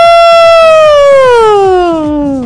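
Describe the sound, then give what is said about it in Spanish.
A loud ambulance siren wails in one long continuous tone that slowly slides downward in pitch, with a faint rhythmic thumping underneath and no voices. “Delirios de ambulancia y todo.”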